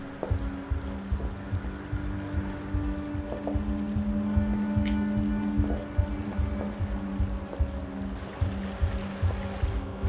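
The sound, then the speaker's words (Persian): Water sloshes and laps steadily against a boat hull, with a low rumbling drone underneath and occasional soft knocks, without any talking. “آب آدمو میترسونه، درسته؟”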